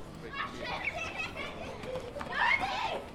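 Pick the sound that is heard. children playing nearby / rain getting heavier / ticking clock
children playing nearby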